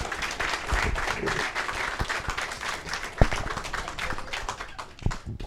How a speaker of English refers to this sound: And not just a former Cardinals player, but 2003 National League All-Star, a member of our 2004 National League Championship team, and of course, fan favorite. How about a warm round of applause for Woody Williams?